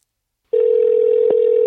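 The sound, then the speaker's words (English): After a short silence, a steady, unbroken telephone tone switches on and hums loudly and evenly, with a faint click partway through, as a call is placed to a phone number. “Let me just try this one phone number I have.”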